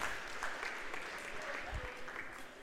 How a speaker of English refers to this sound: Smattering of applause from the hometown crowd here as the end of a period is 5-0.